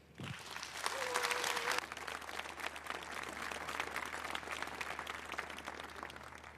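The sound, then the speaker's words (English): A Congress audience welcomes the speakers of a talk on mix networks with applause, the dense clapping loudest over the first two seconds and then holding at an even, sustained level; a brief whistle-like tone rises over it early on. “Welcome now with a big round of applause, okay?”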